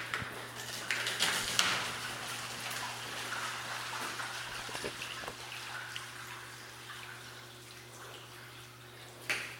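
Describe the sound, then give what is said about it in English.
Binaurally recorded water trickles and splashes steadily with scattered drips and small clicks, over a constant low electrical hum; brief louder splashes rise near the start and again right at the end. “I got binaural water sounds.”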